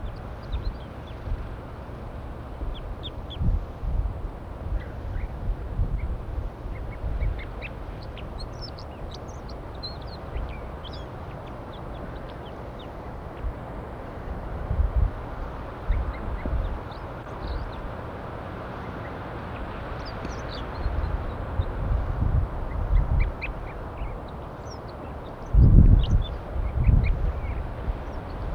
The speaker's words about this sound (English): Start recording the wild birds perched in the pine tree.